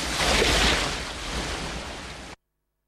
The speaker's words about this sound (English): Kull takes a mighty swing with his axe and strikes the statue's cheek. A torrent of water gushes from the gaping crack, engulfing Krull.